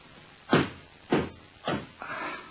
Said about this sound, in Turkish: Kapı çalınıyor hatun. Bir bakayım. Kimmiş gelen?